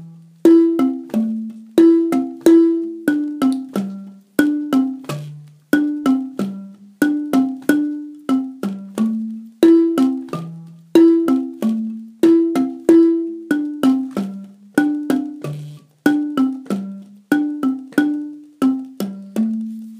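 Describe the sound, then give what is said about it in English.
Cowbells ring out a steady, repeating melodic phrase of struck, ringing tones in a low-to-middle pitch range during a music rehearsal, each note decaying quickly before the next, with no voices over it. “Bell part for us.”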